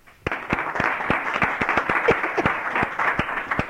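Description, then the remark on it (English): A crowd breaks into steady applause to welcome a guest, many hands clapping in a dense, even patter with a few sharper individual claps standing out, holding at a fairly loud level for several seconds. “So please help me welcome”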